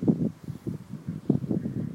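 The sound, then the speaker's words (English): Gusty wind on a sunny, dry, very breezy day buffets the microphone in uneven low surges while trees rustle and a fence rattles faintly underneath, the blustery noise rising and falling with no voices present. “Yeah, the fence is rattling as well. I don't know if you can get that or not. And some trees blowing around.”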